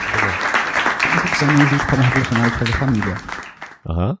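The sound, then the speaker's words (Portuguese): A dense, steady round of applause for TV Boitempo crackles for several seconds while a voice speaks over it, then stops abruptly and a short burst of speech follows. “Salmo de palma pra vocês, salmo de palmas.”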